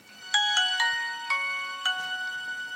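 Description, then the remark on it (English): A classic Nokia mobile phone ringtone plays a quick, bright melody of sustained electronic tones, several distinct notes in succession, clear with no voices. “Nokia.”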